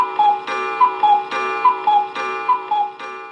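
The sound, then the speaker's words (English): A cuckoo call sound effect played on a live radio program repeats its two-note 'cuck-oo', high then lower, about four times in a steady rhythm over a sustained, tuneful backing, fairly loud, with no talking. “See, Don Imus had a duck, I got a cuckoo.”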